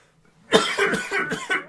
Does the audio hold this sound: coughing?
yes